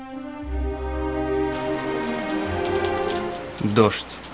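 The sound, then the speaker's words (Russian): Fine, prickly, cold rain falls steadily into water covered with green algae, a soft continuous hiss of tiny drops that thickens after a moment, with a low sustained tone humming underneath. “Дождь. Повсюду, куда ни глянь, только дождь. Мелкий, колючий и холодный.”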